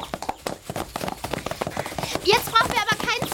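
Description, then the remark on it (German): Fast, rhythmic hoofbeats of horses galloping in a race through the forest and over fields, a steady drumming pattern, with excited voices rising over the pounding toward the end. “Und so machen sie einen riesen Umweg durch den Wald über die Felder. Natürlich wieder mit Wettreiten.”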